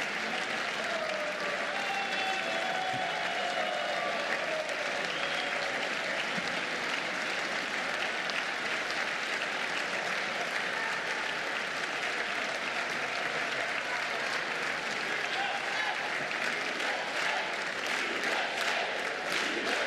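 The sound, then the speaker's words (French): A large crowd in Washington applauds steadily as the American president advances through the crowd toward the stage shaking hands, on a fine-weather evening; a dense continuous clatter of clapping with scattered cheers and whistles rising over it, sustained for the whole stretch without letting up. “vous suivez l'avancée du président américain qui s'avance vers l'estrade à travers ce bain de foule en serrant les mains.”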